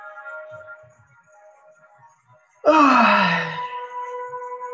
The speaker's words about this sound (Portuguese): Fazemos uma respiração profunda.